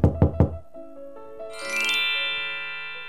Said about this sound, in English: The wolf knocks on Grandmother's door.